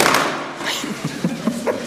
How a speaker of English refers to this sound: After a pause, there came a soft rustling of hay. And the closing of barn doors.